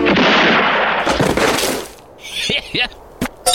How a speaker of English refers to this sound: The Assassination of Jesse James by the Coward Robert Ford, who was too chicken to shoot him face to face. In other words, he was a yellow belly, so he shot him in the back of the head.